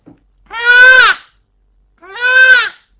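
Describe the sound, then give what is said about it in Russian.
A peacock in Petřvaldík gives two loud, drawn-out wailing screams, each lasting about half a second with a short pause between them, clear with no talking. “Ještě nedávno v mikrorajoně Petřvaldík v jednom z parků прогуливал se павлин и будил своим криком соседей и вызывал большое недовольство.”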